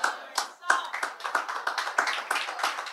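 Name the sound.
audience clapping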